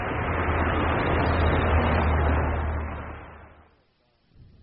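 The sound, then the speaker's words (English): A steady, loud engine rumble with a deep low hum and broad hiss holds for about three seconds, then fades away to near silence as the bus pulls in, with a brief soft noise after. “Ah, here comes the bus.”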